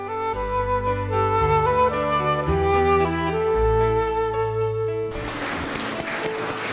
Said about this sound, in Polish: Wielkie brawa dla naszych artystów. Bardzo dziękujemy wam. Kochani, gorące brawa dla nich. Wszystkie dzieci klaszczą. Bardzo dziękujemy za te piękne jasełka